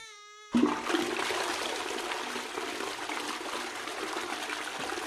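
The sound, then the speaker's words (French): A brief buzzing tone gives way to a toilet flush: a loud, steady rush of churning water that holds for several seconds with no voices. “Quand leurs propriétaires veulent s'en débarrasser, ils les jettent dans les toilettes et ils tirent la chasse.”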